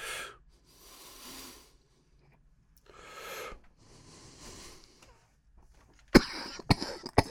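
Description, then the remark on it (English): Several slow, breathy inhales and exhales from a hit of cannabis give way to a sudden burst of three or four harsh coughs near the end, loud and abrupt, with no talking. “is it the introduction of those botanical terpenes, which I grant you are giving the fabulous flavor, but are those contributing to the fact that this really makes me want to cough after every hit?”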